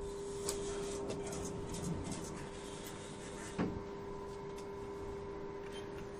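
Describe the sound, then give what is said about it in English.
Glass lift doors slide open at the fourth-floor library over a steady mechanical hum, with a few soft clunks and rattles along the way, moderately quiet, with no one talking. “It's a glass lift, and on the way up, we can see the construction workers working on the site alongside us.”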